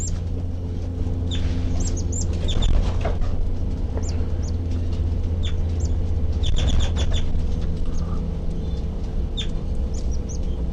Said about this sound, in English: Recording. The baby birds are peeping, and I'm right underneath the nest.